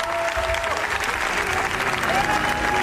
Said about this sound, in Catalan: la pel·lícula que sembla que ha estat una de les sensacions del Festival de Cannes, La bola negra, que és la nova pel·lícula dels Javis, guardonada al Premi a Millor Direcció, i que va rebre un aplaudiment històric.